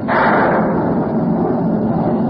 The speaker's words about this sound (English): Dark, dreary clouds. Followed by loud bursts of thunder. Listen.